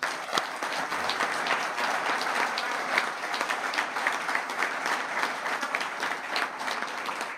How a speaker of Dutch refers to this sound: Maar ik wil je zeer hartelijk danken voor jouw grote inspanningen om in deze gemeente dit mogelijk te maken. En daar mag best nog een applaus voor komen.